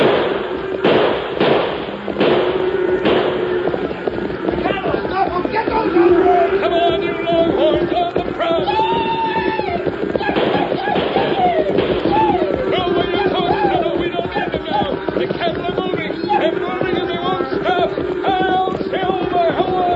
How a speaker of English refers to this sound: Shoot into the air, Tonto. Stampede them.